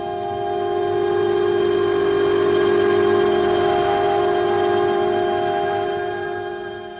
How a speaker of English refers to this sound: She paid her fare, walked through the turnstile, down the stairs, and before 30 witnesses, stepped in front of the northbound train.